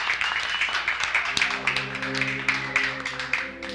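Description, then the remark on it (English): An excited, big crowd at La La's Burlesque show at the Speakeasy applauds, a dense, steady wash of clapping with rhythmic surges, while sustained tonal voices or music hum underneath partway through. “The crowd is excited.”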